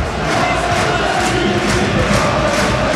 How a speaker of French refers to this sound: Le Stade Mayol a fini par vibrer hier soir et a chanté à plein poumon.